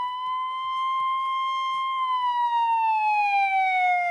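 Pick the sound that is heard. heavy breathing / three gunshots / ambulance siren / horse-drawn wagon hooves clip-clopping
ambulance siren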